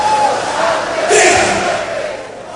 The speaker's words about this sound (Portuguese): Agora gritando, vai! Pra fazer bem! Terapia!